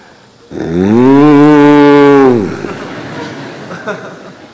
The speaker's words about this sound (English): And all the cows respond to Krishna's call by calling out his name.